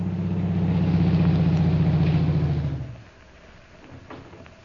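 A car engine idles with a steady, low rumbling hum for about three seconds, then shuts off, leaving near silence with a few faint clicks.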